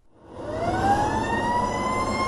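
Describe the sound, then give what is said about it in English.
A fire engine siren winds up in a rising wail, loud, over the heavy rumble of the truck's engine, with no voices. “When you hear this sound coming from a fire engine these days, chances are it's not heading towards a burning building.”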